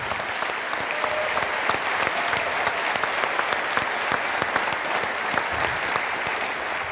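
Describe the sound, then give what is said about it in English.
Sustained applause from a large audience for the event's video streaming team, dense clapping at steady loudness for the whole stretch, with no voices breaking through. “Yeah, big applause for the box.”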